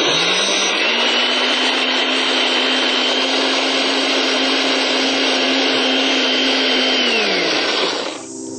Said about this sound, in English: So now I'm going to blend the almonds, but if you have a food processor, it's probably easier. I'm going to blend only 1/2 at a time, because this blender isn't very powerful.